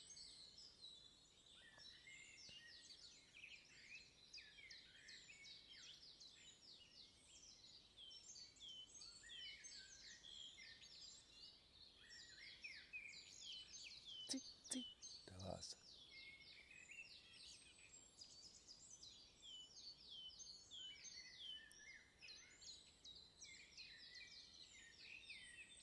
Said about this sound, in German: Noch ist er weiter weg. Aber auch er treibt sich hier rum und ist aktiv. Das ist der Zilpzalp.